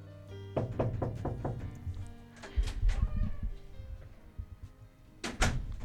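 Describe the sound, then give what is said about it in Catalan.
Five quick, evenly spaced knocks rap on a door, followed by the clunk and rattle of the door being opened as a man in a raincoat and cap enters, with another solid thump a few seconds later. “Truquen a la porta i entra un home en gabardina i gorra com amagant-se.”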